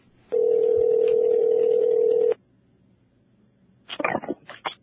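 A single long, steady ringback tone of an outgoing phone call to a man in Worcester, Massachusetts, buzzes for about two seconds, then stops, followed by a pause and a few brief rustling bursts as the line picks up.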